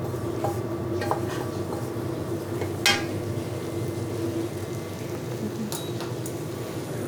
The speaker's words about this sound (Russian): Вот это уже закладываю в кастрюлю. Да. И ставим на слабый огонь тушиться.